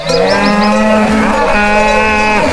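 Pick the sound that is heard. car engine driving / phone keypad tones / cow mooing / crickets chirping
cow mooing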